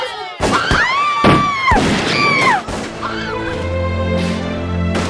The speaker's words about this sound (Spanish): Sonidos de disparos se escuchan por doquier.